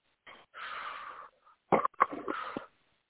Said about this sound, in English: Three deep breaths now